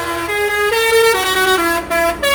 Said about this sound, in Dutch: Want sommige klaksons die komen toch iets harder binnen dan anderen. 103. Kan we gaan tellen tot en met 125. Kijk eens, een heel melodietje.